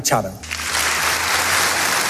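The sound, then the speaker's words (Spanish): A brief voice at the start gives way to a large audience applauding steadily, a dense, continuous wash of clapping that holds at an even, fairly loud level to the end, at the Nobel Peace Prize ceremony in Oslo City Hall as the daughter of laureate María Corina Machado receives the diploma and gold medal on her behalf. “Los aplausos han sido constantes en la ceremonia celebrada en el Ayuntamiento de Oslo, un acto al que María Corina Machado no ha podido asistir.”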